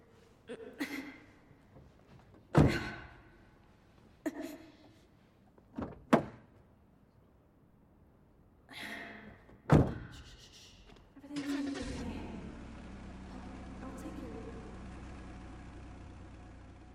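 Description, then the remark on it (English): A series of sharp thuds and clicks as several car doors open and slam shut, followed by the car's engine starting and settling into a steady, low rumbling idle. “Come on, my car is right here.”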